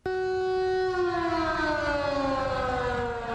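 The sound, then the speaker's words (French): The town hall civil defense siren in Ouagadougou, Burkina Faso, sounding at 9:40 UTC for a national minute of silence honouring the country's martyrs, wails loudly and steadily, its tone holding high then slowly sliding downward over a few seconds, with no voices present. “Il est 9h40 en temps universel quand la sirène de l'hôtel de ville retentissait à Ouagadougou et dans tout le pays à travers une synchronisation des stations de radiodiffusion.”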